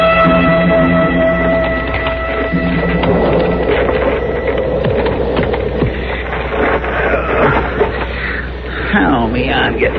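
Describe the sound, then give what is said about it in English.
A horse's hooves clip-clop at an unhurried walking pace on the prairie, the horse not ridden but walking alongside a person on foot, steady, over a continuous background of sustained tones and murmuring that fades partway through. “Well, come on, horse. I can't afford to leave you out here on the prairie. You can walk same as me.”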